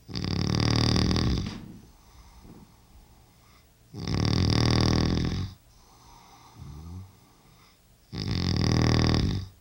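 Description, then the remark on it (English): A sleeping man's loud, rasping snores at night in the bedroom he shares with his wife, three long rumbling inhales in a slow steady rhythm, with quieter breathing and a faint snort in the pauses between them. “My father's snoring is only one of the many aspects of my parents' long and most of the time happy marriage that I will probably never understand.”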